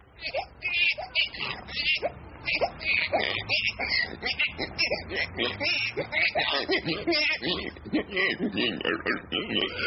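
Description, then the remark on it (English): A man's voice imitates a baby's cries that gradually morph into snorting pig grunts and oinks, a loud, continuous stream of vocal noises lasting nearly ten seconds. “How about a baby turning into a pig?”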